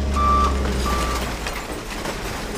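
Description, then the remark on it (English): A garbage truck backs up on the tipping floor of a recycling facility in Rhode Island, where trucks tip out recyclables to be sorted. Its reverse alarm sounds two steady beeps over a deep, continuous engine rumble, fairly loud, with no one speaking. “stands on the tipping floor where garbage trucks from cities and towns across Rhode Island literally tip their recyclables out to be sorted.”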